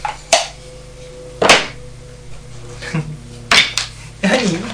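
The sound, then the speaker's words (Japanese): Irregular clatter of plates and dishes being moved around as someone searches for a plate, with four or five sharp clinks spread out over a few seconds above a low steady hum. “お皿があるかな。”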